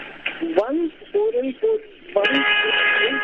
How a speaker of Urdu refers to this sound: میرا خیال ہے آپ بہت ہی ہارن بجنے والی جگہ پر ہیں. چلیے ہم آپ کو 5 منٹ میں کال کرتے ہیں, آپ تھوڑا سے اس علاقے سے نکل جائیے.